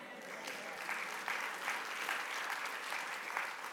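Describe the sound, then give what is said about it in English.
A church audience claps steadily for a few seconds for a line in a sermon, a dense, even patter of many hands with slight swells in loudness and no voices standing out. “I need some more claps for that one.”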